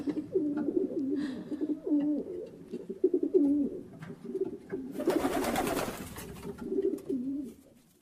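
Pigeons coo steadily, overlapping throaty, rolling calls with no talking, interrupted midway by a short noisy rustling burst before the cooing tapers off at the end.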